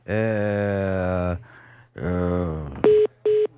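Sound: phone line beeping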